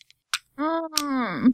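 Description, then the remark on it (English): A few sharp, isolated clicks, like a box cutter blade being slid up and down, with a sustained voiced sound running beneath the later clicks. “And you know how when you take a box cutter and you just kind of move the blade up and down, that clicking sound?”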